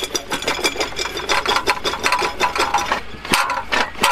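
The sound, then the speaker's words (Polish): A tractor-mounted drilling rig in the middle of a forest bores fence-post holes 3.5–4 metres apart, its drill going nearly a metre into the ground and tearing through roots, with a loud, harsh rasping grind broken into rapid, uneven scraping bursts that continue steadily throughout, with no voices. “Jak pan widzi, stoi wiertnica na traktorze, która wierci otwory w odległości 3,5-4 metry.”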